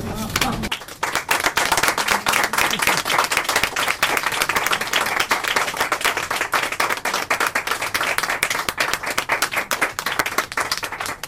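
Sustained audience applause, a dense wash of many hands clapping at a steady loudness for about eleven seconds, with no voices standing out above it.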